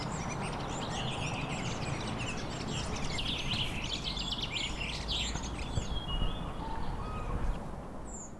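A fieldfare sings a squeaky, chattering song nearby, a continuous stream of scratchy high notes over a steady low outdoor rumble, with no voices.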